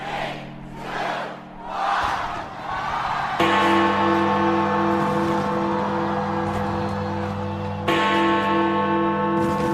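Big Ben's deep clock bell in London tolls twice on New Year's Eve, each loud strike ringing out with a long, humming resonance, after a few seconds of cheering, shouting crowd noise that continues faintly underneath.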